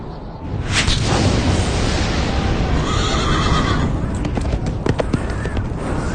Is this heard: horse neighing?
yes